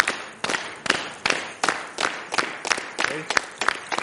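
A crowd, up on their feet, claps together in a steady rhythm, about two sharp, loud claps per second, keeping time on their own to start a song at a live performance before any singing begins.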